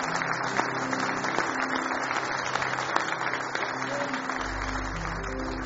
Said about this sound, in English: Somebody say praise the Lord. Now give him one more hand clap of praise this morning.